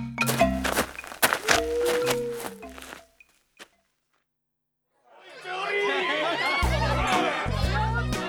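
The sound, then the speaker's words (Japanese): Dense crowd chatter fills a busy Japanese izakaya, with overlapping voices and bursts of talk, after a few seconds of clattering thunks and footsteps followed by a brief silence. “そんじゃ、その辺の居酒屋にでも入るか。”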